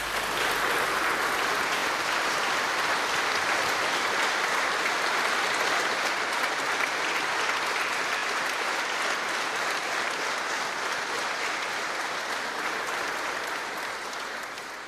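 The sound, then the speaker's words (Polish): Sustained applause from an audience, a dense, steady wash of clapping that holds at an even loudness for about fifteen seconds, with no voices rising above it. “Myślę, że oklaski się należą.”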